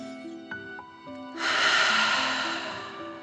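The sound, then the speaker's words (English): A quiet breath in through the nose, then a long, forceful whooshing 'dragon breath' exhale through the mouth during a relaxation exercise, loud, fading gradually over a couple of seconds while soft sustained musical tones play underneath. “Breathe in through your nose, filling up your belly, and then out through your mouth, imagining you are breathing fire. Ready? Deep breath, in and out.”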